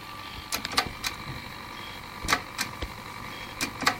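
A damaged Zip disk clicking in a Zip drive: sharp mechanical clicks, some in quick pairs, repeat at uneven intervals over a steady high electronic whine, with no voices.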